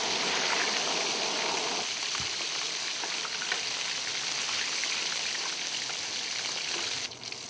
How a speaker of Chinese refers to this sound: 即马放个猪油。即马煎好啊，即马爱淋一挂胡椒盐，搁咸椒仔粉。